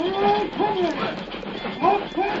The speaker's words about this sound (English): What's that coming after us? The saints be praised. That engine.